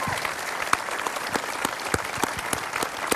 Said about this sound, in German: Vielleicht nochmal einen ganz herzlichen Applaus.